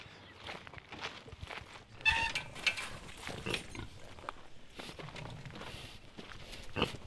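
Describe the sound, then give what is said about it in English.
Saddleback pigs munch and snuffle with occasional low grunts, a steady run of crunchy, wet chewing noises, mixed with footsteps crunching along as people walk past them towards a paddock; no voices. “We are walking towards a paddock and we're passing some more of your saddlebacks and they are munching away at something.”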